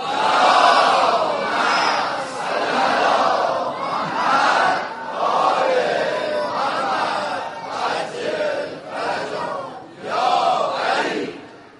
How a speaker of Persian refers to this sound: به خاطر همینم یک صلوات امام زمان پسند بفرستیم.